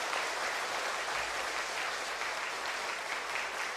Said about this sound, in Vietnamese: Và hãy dành cho họ một tràng vỗ tay thật lớn, thật lớn nữa, thật dài nữa, thật giòn.